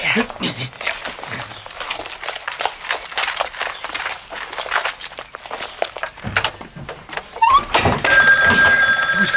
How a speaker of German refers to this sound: Das Telefon klingelt.